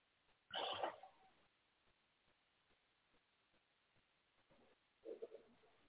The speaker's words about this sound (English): Are those birds outside your window? Yep. Fucking loud. In the morning, they're like, their fucking mating calls are never ending.